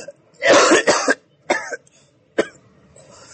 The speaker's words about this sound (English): Now you're coughing too